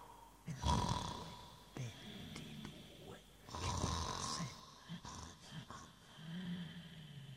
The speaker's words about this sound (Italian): Qualcuno che tossisce, uno degli orchestrali russa in un angolo.